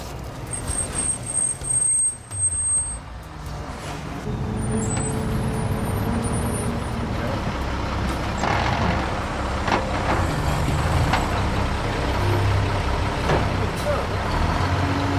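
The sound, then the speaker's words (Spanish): A truck engine rumbles steadily with a deep, low drone, growing louder after the first few seconds and holding a constant heavy roar, with occasional hissing bursts like air brakes, as an escaped convict drives the truck to the back of a house. “Mientras McCoy y sus hombres conversaban con la pareja, uno de los convictos llevó el camión a la parte trasera de la casa.”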